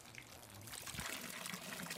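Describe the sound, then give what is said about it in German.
Mountain water trickles and splashes steadily down from the mountain past a hut, a continuous bright babbling flow with no pauses, fairly quiet, with no voices over it. “Beständig plätschert vor der Hütte das Wasser vom Berg herunter.”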